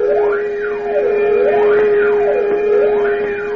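A loud penitentiary siren wails into the night, its pitch sweeping up and down in slow, regular cycles about every second and a half over a steady droning tone, with no voices.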